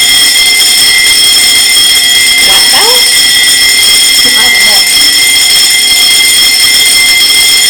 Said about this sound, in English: it's a wet double bell there, which means you go straight to lesson.